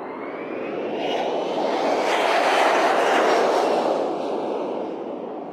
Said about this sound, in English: That is the Hawaiian Airlines jet taking off. We don't know. It's bound for Seattle, Tokyo, Tahiti, San Francisco.